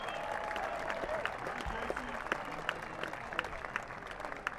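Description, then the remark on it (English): A concert audience claps steadily in dense, continuous applause for the band's sound man, with sharp individual claps scattered through a broad wash of sound and faint voices mixed in. “I want you to give a big round of applause for our incredible sound man,”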